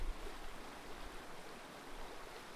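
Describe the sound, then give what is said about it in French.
A steady, continuous rush of flowing river water, soft and even throughout with no pauses, heard alone without any voices. “Aujourd'hui, je vous accompagne depuis la rivière.”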